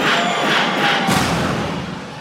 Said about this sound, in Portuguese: Cadê o grito dos solteiros?